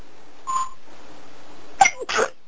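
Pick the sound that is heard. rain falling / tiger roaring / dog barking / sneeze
sneeze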